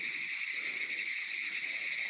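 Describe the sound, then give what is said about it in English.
A dense chorus of frogs calling nonstop, a steady high-pitched trilling drone that stays loud and unbroken throughout, with no voices. “Now, these are some loud ass frogs.”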